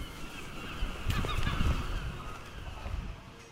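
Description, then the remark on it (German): Several gulls cry out in a loose cluster of harsh, squawking calls over a steady low rumble of background noise at the fishing harbour of Peterhead, in north-east Scotland, at 6 a.m. as the last fishing boats come in to unload their catch; the cries are strongest in the middle. “Die letzten Fischerboote laufen im Hafen von Peterhead ein, um ihren Fang auszuladen. Für die Möwen ein gefundenes Fressen.”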